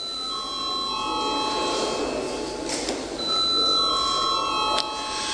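A steady electric bell rings continuously with a bright, high metallic tone, holding for several seconds with a slight pause midway before resuming, over a faint murmur. It is the voting bell of Latvia's parliament, the Saeima, rung to call members to a vote.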